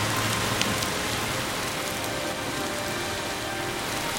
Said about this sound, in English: seen it rain this hard in a long time. Well, I guess God said he's going to bless the earth.